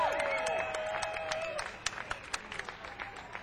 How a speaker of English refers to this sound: Anyway, the guy that's doing the sound for us, this is from Ocean Springs, Mississippi. Give a big hand, you back over there.